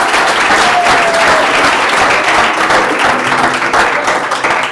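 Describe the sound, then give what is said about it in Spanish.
An audience applauds steadily, a dense, loud wash of many hands clapping that holds for several seconds before starting to fade at the end. “Ok, un aplauso para ella.”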